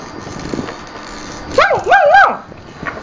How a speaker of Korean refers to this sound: 멍멍이야. 그거 멍멍이에요?